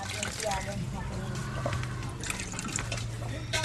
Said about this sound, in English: pours the murky greenish liquid into old used water bottles the family collects.